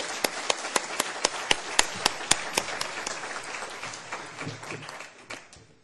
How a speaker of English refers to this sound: And I'd like everybody to give a big round of applause.